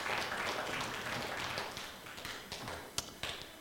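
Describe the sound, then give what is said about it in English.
Dense, steady audience applause for the boys and girls at a children's church service, Super Church: many hands clapping together, a broad wash of sharp claps that thins out toward the end with a few louder, isolated claps standing out. “Let's give all of our boys and girls a big round of applause and let them know that we love them today.”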